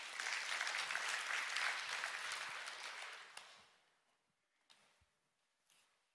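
A crowd claps steadily in a dense wash of applause for about three seconds, thanking someone for their help, then it thins and fades out, leaving a few scattered claps and quiet pauses.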